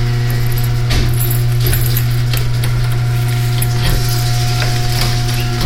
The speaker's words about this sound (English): And that's the garage door opening.